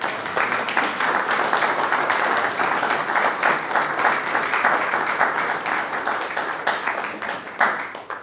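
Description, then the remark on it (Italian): Sustained applause from an audience saluting a Buddhist master, a dense, steady wash of many hands clapping at once, fairly loud, continuing without pause for several seconds. “Saluto al maestro da tutti, un applauso, non lo so, speriamo accetterà.”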